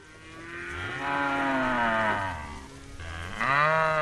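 A mob of cattle mooing in the long paddock in outback New South Wales, Australia, slowly making its way south; several long, deep moos overlapping one another, loud, with a fresh bellow rising near the end. No one speaks.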